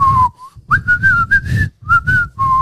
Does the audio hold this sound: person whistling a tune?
yes